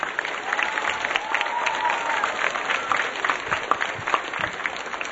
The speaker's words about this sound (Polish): W tym momencie podziękujmy wszystkim ojcom, braciom, redemptorystom, tym, którzy przyczynili się do zorganizowania naszego dzisiejszego spotkania. Brawa dla nich!